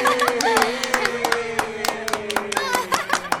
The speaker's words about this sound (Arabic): صفقوا لصديقنا